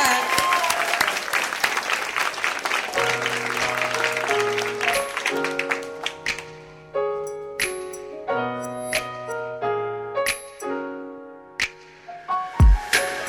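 An audience bursts into loud, sustained applause welcoming a hip-hop artist, filling the first half, then thins out as a melodic instrumental tune with distinct plucked or struck notes takes over.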